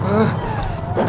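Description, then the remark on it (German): A car engine rumbles low, running unevenly with a rough, faltering tone for about a second as it stalls in the middle of the desert, with what sounds like a voice mixed faintly into the noise. “Hier ruckelt es die ganze Zeit.”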